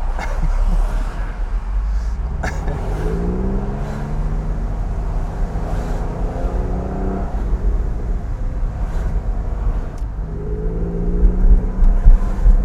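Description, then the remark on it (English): A car with no rattles hums steadily from inside the vehicle while driving, with rising and falling tones as it accelerates and shifts, over a constant low road rumble. “No rattles in this car. Wow, this is a good car, man.”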